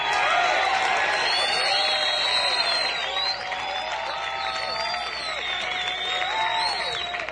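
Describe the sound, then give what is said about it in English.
A concert crowd applauds and cheers steadily for several seconds as the band's bass guitarist is introduced, a dense wash of clapping with scattered whoops and shouting voices rising above it, fairly loud throughout. “I got a nice round warm of applause.”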